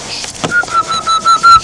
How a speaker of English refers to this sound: You whistling?